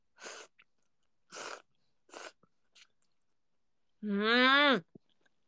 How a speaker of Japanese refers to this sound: そばをすする音を聞いてみんなが幸せになってくれる。こんなにありがてえことはねえわ。